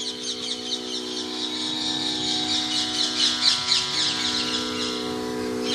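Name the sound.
birds calling outdoors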